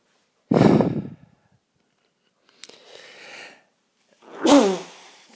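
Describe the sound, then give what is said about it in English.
Three sneezes in quick succession from a person with a cold. The first and last are loud and forceful, the middle one softer and breathier, with short quiet gaps between them and no talking. “I've just hit a sneezing fit, which happens fairly.”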